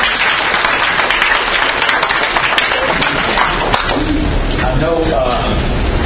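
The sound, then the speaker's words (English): An audience claps steadily and loudly for about six seconds for their director, a dense crackle of many hands, with a few voices calling out near the end. “Let's all clap for our fearless director”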